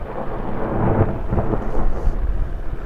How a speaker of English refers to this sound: Dangling about 150 feet below is a device called a daisy bell. Fully loaded, it weighs about 1,000 pounds. The daisy bell creates a concussive blast by blending oxygen and hydrogen, then adding a spark that ignites the mix.